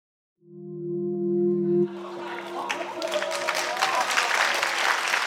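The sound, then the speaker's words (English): A steady, low ringing tone sounds for about a second and a half, then a crowd of traders on a Japanese trading floor breaks into sustained, dense clapping mixed with scattered voices as Japanese stocks surge to an all-time high, continuing to the end. “Traders clapping as Japanese stocks surge to an all-time high.”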